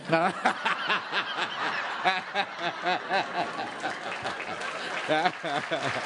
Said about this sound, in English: Yes, I'm applauding that too.